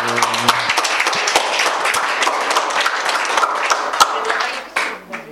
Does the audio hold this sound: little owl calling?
no